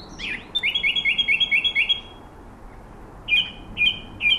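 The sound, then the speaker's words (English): A song thrush sings in a garden at dusk, mimicking other birds, with a quick run of about seven repeated whistled notes, a short pause, then three more clear, separated phrases over faint background hiss. “To me, that sounds very like a song thrush.”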